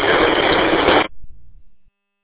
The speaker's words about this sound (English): Nothing but static. Can barely make out what you're saying.